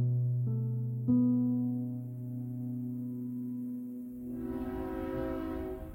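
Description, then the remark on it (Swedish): A train to Stockholm sounds a long, steady horn blast, then the rolling rumble of the cars moving along the tracks rises underneath as the horn fades. No voices. “sitter på ett tåg till Stockholm.”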